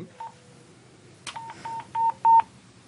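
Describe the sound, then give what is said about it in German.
A short faint tone, then a quick sequence of four electronic beeps, the last two longer and louder: a radio's call signal tone to the dispatch centre, sent to log on for a patrol trip on Lake Zug. The radio is about twice the size of a mobile phone. Heard alone over a low background hum. “Jetzt haben Sie sich gerufen mit dem Signalton vorher.”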